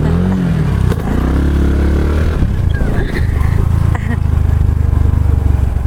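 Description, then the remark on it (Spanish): A motorcycle engine runs loud throughout, a steady low rumble with a brief rise in pitch early on, while voices talk faintly over it. “No, pero de ahí no, de la moto.”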